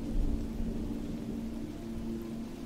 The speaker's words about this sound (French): Le vent a toute liberté de faire danser les branches, les balançant dans une cadence régulière qui à présent augmente en puissance. Le ciel s'assombrit brusquement et quelques gouttes de pluie s'échouent sur votre visage.